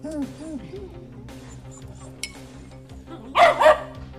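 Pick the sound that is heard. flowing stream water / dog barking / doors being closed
dog barking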